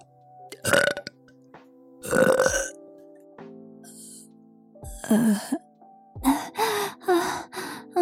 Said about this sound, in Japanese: ゲップ式。ママゲップ行くわよ。